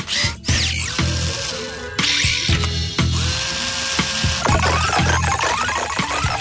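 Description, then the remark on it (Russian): A small motorized screwdriver whirs in short repeated bursts, each spin rising and falling in pitch with brief clicks and pauses between, fairly loud with no talking. “Ва! Отвертка.”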